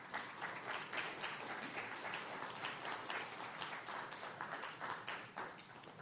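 Sustained applause from an audience, a dense wash of many hands clapping at a steady, even level for several seconds with no voices over it.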